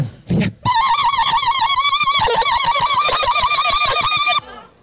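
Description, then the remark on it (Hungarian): A voice on a stage mimics birdsong, one bird made to sound like several, producing a rapid, continuous stream of warbling, trilling chirps for about four seconds after a brief breathy start, loud, with no talking. “Gondolj a tücsökre, gondolj a madarakra, ami volt már itt a színpadon.”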